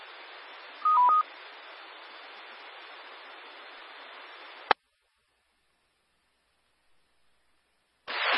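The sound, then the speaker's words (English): A quick burst of electronic radio tones, a few stepped beeps, rises over steady radio hiss, left up on a Central Carolina Sky One weather spotter net in case of damage reports; then a sharp squelch click cuts to silence before the static briefly returns. “I'm going to leave the tones up for just a couple of minutes in case someone has a damage report.”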